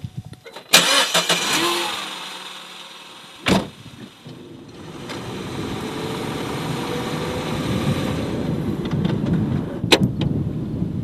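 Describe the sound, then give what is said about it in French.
A car door thunks shut, then an engine cranks and starts, settling into a steady low rumble as the car pulls away for a short drive at 3:50 in the morning, with a couple of sharp clicks and knocks along the way. No voices. “On va faire un petit bout en voiture, sinon on aurait dû partir bien plus tôt.”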